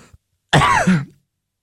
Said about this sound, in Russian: Простите меня за этот кашель, не своевременный.